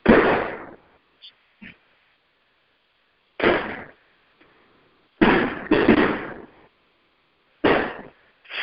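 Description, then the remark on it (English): Fireworks explode outdoors in a series of loud booms at irregular intervals, each bang trailing off in a brief rumbling echo, with two blasts in quick succession near the middle. “As apparently the major fireworks are going on.”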